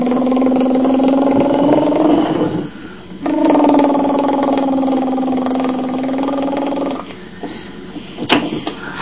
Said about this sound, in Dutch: Vind je hem leuk? Nee. Vind je de tractor leuk?